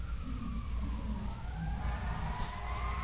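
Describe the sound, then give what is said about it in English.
An emergency vehicle siren wails with rising and falling tones over a steady, heavy rumble of traffic, with no voices. “I told you before, I must have a little Dalmatian in my past because every time I hear a siren, I want to find out where it's going.”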